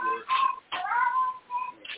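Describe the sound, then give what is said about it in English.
A person imitates a cat's meow with a few drawn-out, wavering vocal cries in quick succession, moderately loud, separated by brief pauses. “Kitty, and I did a meow, and you said, no, it wasn't for them kind of kitty.”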